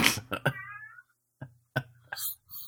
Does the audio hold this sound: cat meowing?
yes